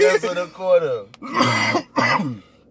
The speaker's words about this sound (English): I'm going to work on this coughing shit while we do this, too. Right, man. I was like, God damn, man. It be the weed, man. You be coughing a lot, bro.